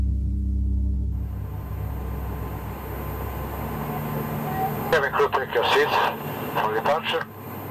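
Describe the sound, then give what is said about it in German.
A jet airplane roars steadily as it takes off from Sarajevo, a deep, sustained engine rumble, with a voice speaking over it in the last few seconds. “Als mein Flugzeug startet, schaue ich wieder auf Sarajevo, das trotz der vielen Einschusslöcher und Narben in den Fassaden eigentlich ganz hübsch aussieht.”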